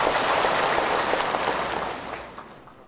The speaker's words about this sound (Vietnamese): Và trước khi vào chương trình, xin quý vị chúng ta cho thêm một tràng pháo tay nữa để khích lệ tinh thần cho cô.